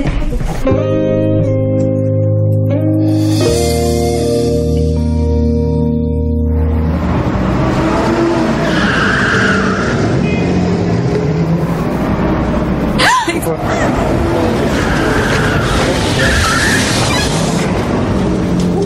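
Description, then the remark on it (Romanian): A car engine revs loudly with a rising mechanical whine, then gives way to a rough, noisy rush as tires squeal and skid, sustained, with no voices. “Cauciuc, da? Ar fi fost bine, dar cred că e o veche echipă la motor.”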